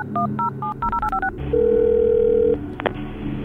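A quick run of about eight beeping keypad tones as a number is dialed, then a single long, steady ringback tone, ending in a faint click. No one speaks.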